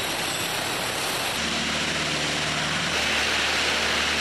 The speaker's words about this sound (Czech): Pravidelně technici čistí i tunely. Kolem 1 hodiny ráno pak přijel do stanice lokotraktor s myčkou.